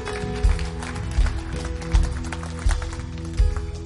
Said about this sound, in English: We're getting ready to do a baptism right now. And you know what? It's a five-year-old. Yeah, you can clap.